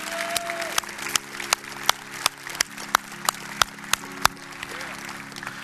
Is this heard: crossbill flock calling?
no